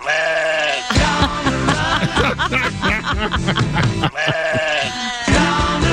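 A chorus of sheep bleating loudly, several wavering cries overlapping continuously for a few seconds, with a brief dip before the bleats swell again.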